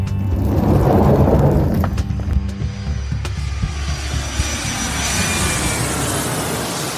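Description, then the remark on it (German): Loud airplane engine roar, a broad rumbling whoosh that swells at first, then settles into a steady high whine and rushing drone. No voices are heard. “Ihr habt frei, ihr setzt euch in das Flugzeug”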